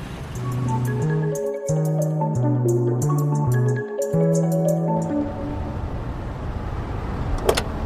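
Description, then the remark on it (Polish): A car slowly pulls into a crowded courtyard in Poznań and parks by the door, its engine humming steadily, with a brief sharp squeak near the end. “Dobra, tam dawaj pod drzwi, najwyżej przeparkujesz.”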